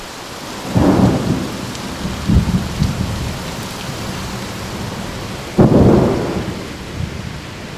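Rain starts to fall and then hisses steadily throughout while two loud thunder rumbles roll in, one near the start and another later, with smaller booms between them. No voices are heard.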